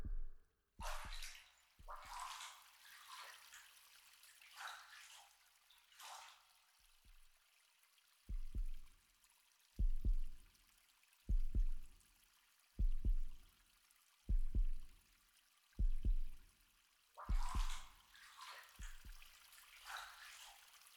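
Muffled heartbeat thumps, heard with an ear pressed against a person's chest, pulse steadily at a slow, even pace, framed by soft rustling of fabric at the start and end; no one speaks.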